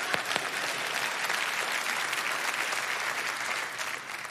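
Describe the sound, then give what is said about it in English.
An audience claps steadily, a dense wash of many hands sustained evenly for several seconds, with no voices standing out. “Yeah, come on, clap.”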